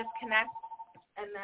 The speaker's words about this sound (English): And I'm so sorry, that's my phone ringing in the background.